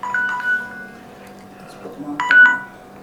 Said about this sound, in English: So, somebody ringing me, I won't take it.